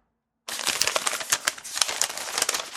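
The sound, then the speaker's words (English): Paper crinkles and rustles steadily as a roll is unwound, with dense, crackly bursts continuing for a couple of seconds after a brief silence. “I love the paper roll.”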